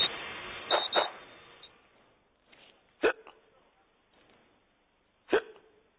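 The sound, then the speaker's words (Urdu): A person deliberately fakes hiccups with their voice: two sharp hiccup sounds about two seconds apart, preceded by a brief vocal burst, with only faint murmuring between them. “یہ جو ہچکی آپ نے سنی, بلکہ ہچکیاں سنی, ایک ہچکی آتی ہے اور ایک لائی جاتی ہے, یہ جو دو ہچکیاں آئیں یہ فرضی ہچکیاں تھیں.”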